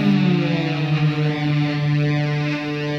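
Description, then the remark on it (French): A distorted electric guitar holds a loud, sustained, siren-like tone with rich harmonics, wavering slightly in pitch and trailing in echo for about three seconds, with no voices. “Et cette sirène, c'est de la guitare en fait.”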